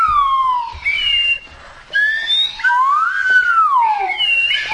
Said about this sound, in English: That's a good whistle to make. That's what a police officer uses. Stop! And they blow the whistle.